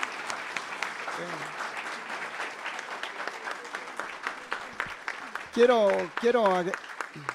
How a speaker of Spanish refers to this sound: Muchas gracias, un aplauso. Un aplauso a San Andrés.